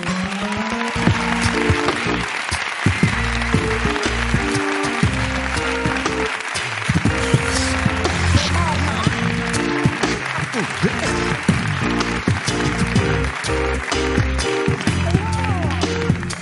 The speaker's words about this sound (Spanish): Ella se habrá dado cuenta, así que pido un aplauso para Amarna Miller.